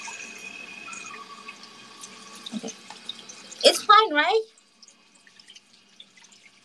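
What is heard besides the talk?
running tap water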